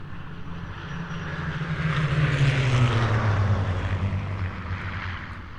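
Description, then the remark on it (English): A propeller plane drones steadily overhead, its engine growling low and continuous, swelling louder toward the middle before easing slightly as it flies on. No voices are heard. “The plane turns. You're going south.”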